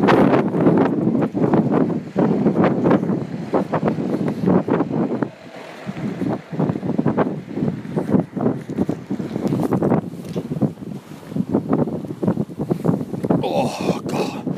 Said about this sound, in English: Anyway, listen to that wind.